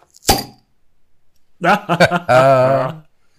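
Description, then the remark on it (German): A Flensburger beer bottle cap pops off with one sharp, bright metallic snap and a brief ringing tail, followed after a short pause by a man talking. “Das Bier ist offen, Alter.”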